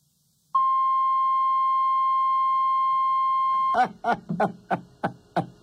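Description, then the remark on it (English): A loud, steady electronic beep holds one pitch for about three seconds, then cuts off abruptly as a person starts talking. “Well, at first I thought the beep meant she was using profanity, but then I realized that was actually just the race card expiring.”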